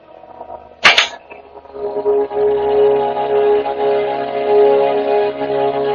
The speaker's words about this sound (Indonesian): Ketika baru saja aku akan memejamkan mata, tiba-tiba dengar seperti ada seseorang melempari kaca jendela kamarku.